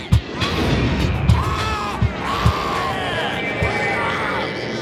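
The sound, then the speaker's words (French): Eerie, wavering howls of hostile Beta aliens on the planet Beta rise and fall over a dense, rumbling din of voices. Several heavy thumps punch through at irregular intervals. “Ils les menacent en poussant des hurlements terrifiants.”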